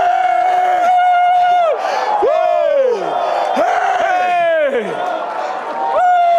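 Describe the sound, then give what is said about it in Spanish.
A large crowd shouts and cheers loudly and continuously, with high whoops and rising and falling yells layered over a dense, sustained roar of many voices. “Grite y levante su voz. Aleluya, gloria.”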